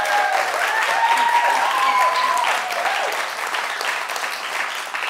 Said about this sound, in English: And so would you just give both those guys a round of applause?